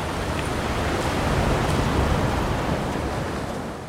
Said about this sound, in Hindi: रुआनु तूफान बंगाल की खाड़ी में तेजी से बांग्लादेश की तरफ बढ़ रहा है। समंदर में ऊंची लहरें और तेज हवाओं ने पश्चिम बंगाल के सुंदरबन के इलाके में लोगों को अपने घरों के अंदर ही महदूद कर रखा है।